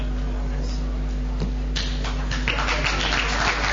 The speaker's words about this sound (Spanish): No empecemos con los aplausos, muchachos, escuchémonos, en vez de aplaudir, escuchémonos.